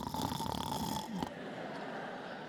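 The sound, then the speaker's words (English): A man's voice imitates loud snoring: about a second of rough, rattling breathy snorts, then a quieter, softer exhale trailing off. “He's never snoring. He's never asleep.”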